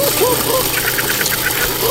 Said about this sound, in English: On the count of three, turn on the mixer.